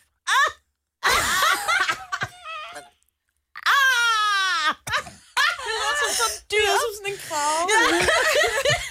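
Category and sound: human body sound, person screaming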